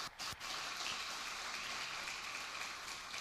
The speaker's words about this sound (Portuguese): Se você está comigo, dá uma salva de palmas a Jesus.